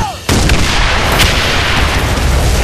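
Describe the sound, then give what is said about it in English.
Parcels of TNT and fragmentation bombs, released from falling boxes burst open by a small charge, explode in a loud barrage that erupts after a brief quiet moment, a dense, continuous roar of blasts with sharp cracks standing out over a deep rumble. “The boxes burst open, countless parcels of TNT and fragmentation bombs raining down upon the unsuspecting guards.”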